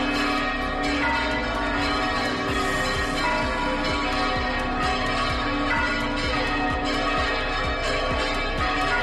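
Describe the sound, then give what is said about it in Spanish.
Church bells of the Co-Cathedral of La Redonda in Logroño and other churches in La Rioja, Spain, peal together in a dense, continuous clangor, overlapping strokes ringing out loudly and joyfully with a steady rhythmic pulse, celebrating the election of Pope Leo XIV at 6:08 pm, heard on Calle Portales with no voices. “Minutos después de la fumata blanca, a las 6:08 de la tarde, las campanas de la Concatedral de la Redonda de Logroño y de otras iglesias riojanas comenzaron a sonar en señal de júbilo.”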